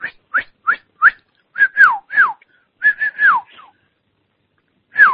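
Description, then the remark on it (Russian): Someone whistles a quick series of short, chirpy notes, some sliding downward in pitch, loud, then pauses before one last whistled note. No one talks. “Так будешь насвитывать, как тебя в жопу в бутылку засунуть, нахуй.”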